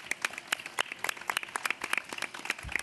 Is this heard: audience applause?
yes